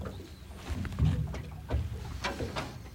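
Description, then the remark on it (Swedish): Water laps and clucks softly against a boat hull at Nyckelgrundet in irregular little splashes, with faint tern calls in the distance and no talking. “Kanske att man hör lite tärnor en bit bort, men annars hör man ju klucket i alla fall från...”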